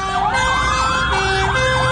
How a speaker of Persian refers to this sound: اینجا خودروهای آتش نشانی به سمت زندان اوین میروند.